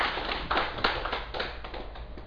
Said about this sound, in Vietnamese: Xin quý vị vỗ cho một tràng vỗ tay.